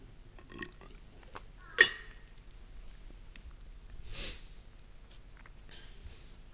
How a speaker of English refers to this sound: Excuse me for a water break.